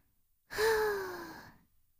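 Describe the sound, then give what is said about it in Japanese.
A single long, breathy exhale, presented as a succubus's breath, blown right up against the microphone, lasting about a second. A faint voiced tone slides downward through it, like a soft sigh. “サキュバスの吐息を吸い込むと、理性なんてすぐに消えちゃうんです。”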